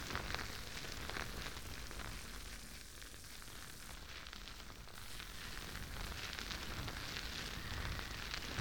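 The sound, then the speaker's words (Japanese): Dense, crackling foam fizzes steadily, a soft bubbling hiss of countless tiny pops with a faint rubbing texture, continuous and fairly quiet with no voices, as thick foam lifts dirt from the surface of a small ear during ear cleaning. “もちもちの泡だから、お耳の表面の汚れをしっかり吸着しています。”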